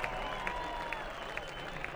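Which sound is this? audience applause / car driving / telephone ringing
audience applause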